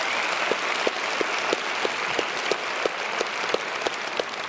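An audience applauds steadily in a dense wash of clapping to welcome the Beaver Creek campus, punctuated by sharper, evenly spaced claps about three per second, holding a constant loudness throughout.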